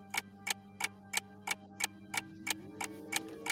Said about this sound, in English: One, two, you hear the clock ticking. Tick tock, you about to stop living.